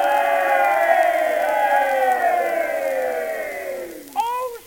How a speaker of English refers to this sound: did you ever see such a crowd of people in all your life? I never did.